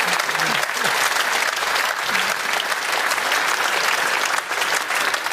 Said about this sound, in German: klatschen.